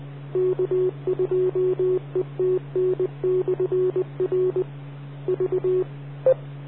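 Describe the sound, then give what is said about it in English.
A new two-way radio, the 78, in a shop sends rapid clusters of short, evenly pitched electronic tone beeps over a steady low hum, ending with one brighter single beep. No one speaks. “Yeah, I thought you might want to hear of the new radio in the shop sounds.”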